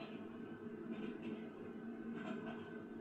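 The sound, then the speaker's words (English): A train rolls steadily along the rails, a continuous low rumble with a faint hum and subtle rhythmic clatter, fairly quiet and heard alone without any talking. “The view on the side of the train is far more lovely.”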